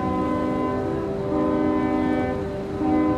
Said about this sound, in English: Robert blasts out the fort's safe passage code. Two long whistles, one short.